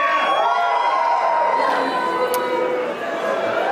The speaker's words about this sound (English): That's okay. For those of you that booed, please check your email for a summons later this afternoon.